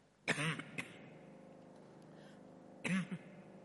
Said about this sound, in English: I'm not used to speaking for so long. It's making me cough, nothing else.